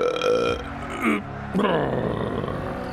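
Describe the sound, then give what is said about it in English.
A loud, drawn-out burp rumbles, a gurgling belch with a brief break in the middle before it rolls on for a couple more seconds, let out after downing a pint of Amstel beer, on live TV. “Just burped on live TV.”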